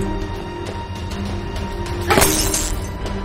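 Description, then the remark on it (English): In a basement, a sudden bright crash of light bulbs being broken with a wooden plank cuts through a steady low hum, followed by a brief scatter of tinkling glass before the hum settles again. “Shannon breaks the light bulbs with the plank.”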